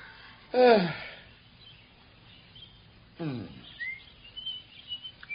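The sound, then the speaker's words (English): Two loud, harsh bird squawks, about two and a half seconds apart. Each one drops sharply in pitch. Faint chirps and twittering follow softly in the background. “Oh, squawk, squawk, squawk.”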